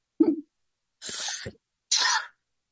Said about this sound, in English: Now I'm going to have a coughing fit.